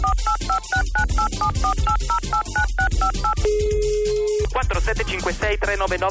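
A rapid series of touch-tone beeps as a phone number is dialed to call a phone line for people looking for a Froyasm, each tone short and evenly spaced, followed by a steady ringing tone, all over a loud music bed.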